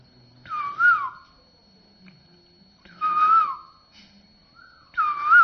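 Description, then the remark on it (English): Someone whistles an imitation of a koel's call: three separate phrases, each a clear, fairly high note that swoops up and then down, spaced by pauses of a second or more, with no talking. “And this kokila comes. And right at 4 o'clock he starts.”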